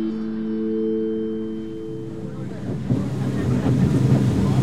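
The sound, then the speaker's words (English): A boat motor drones steadily with a low tonal hum as the boat travels upstream on a river, while wind buffets the microphone, the rushing noise growing louder and more turbulent toward the end. “On the boat, we continue upstream.”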